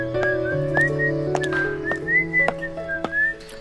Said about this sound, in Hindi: ये सीटी मत बजाइए।